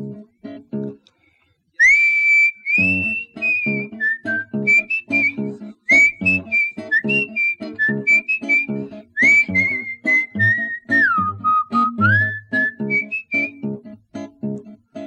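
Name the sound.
human whistling a tune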